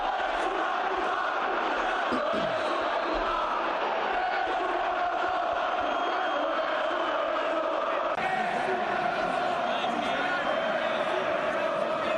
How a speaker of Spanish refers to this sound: Esto era lo que le gritaba la grada del Metropolitano a Cristiano durante el partido.